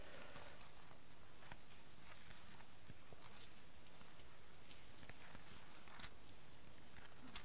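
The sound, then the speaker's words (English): Many book pages rustle and flip at once as listeners turn to chapter 8, verse 10, a soft, continuous papery crackle broken by scattered sharper flicks, with no one speaking. “Good to hear the rustling and sticking with me.”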